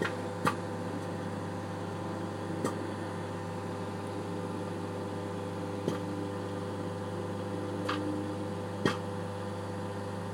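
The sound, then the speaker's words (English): Popcorn kernels begin popping in a running microwave set for 3 minutes 59 seconds: about five sharp, scattered pops at irregular intervals break through the oven's steady, loud low hum and whir. “Starting to pop.”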